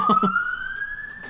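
A siren wails steadily in the background, its tone slowly rising over the short stretch, while a voice briefly speaks at the start.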